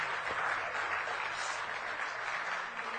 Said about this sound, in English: If you're here and you're a guest, can we give all of our guests a round of applause this morning?